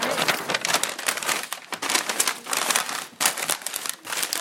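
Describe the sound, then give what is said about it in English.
A pencil being sharpened in a sharpener, a steady dry, crackly grinding that keeps going for several seconds with small uneven pulses and no talking. “Perhaps did you see a double sharpener somewhere?”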